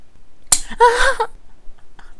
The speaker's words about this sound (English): Don't slap me with the gun again.